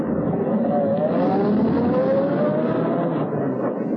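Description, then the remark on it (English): A large limousine's engine, with an English chauffeur at the wheel, rumbles steadily, its pitch rising gently as it pulls away. The motor stays loud and continuous for several seconds with no voices. “Seated in the luxurious limousine, equipped with the correct English chauffeur, she became Lady Edith Bannon Murdoch.”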